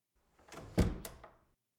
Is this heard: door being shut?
yes